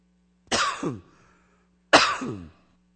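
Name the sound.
coughing and throat clearing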